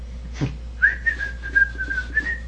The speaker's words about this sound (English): I whistle.